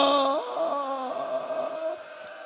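A mournful wailing moan from a single voice, drawn out in sliding, wavering pitches that rise and fall for a couple of seconds before fading slightly, with no words.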